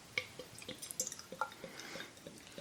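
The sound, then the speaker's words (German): Slightly dark, light-brown beer glugs and splashes into a glass, a quick series of wet, bubbly plops over a soft fizzing hiss, with no voices. “ich gieße mal ein.”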